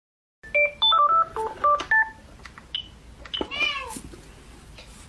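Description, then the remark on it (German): A quick run of telephone keypad tones as a call centre is dialled, about eight short beeps in irregular rhythm, followed by a cat's rising meow and other faint background noise. “Wir gehen jetzt direkt in das Callcenter rein.”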